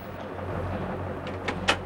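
A door slams shut as Bender angrily slams it on Vernon: two quick light knocks build into one sharp bang near the end, over a steady low hum with no voices.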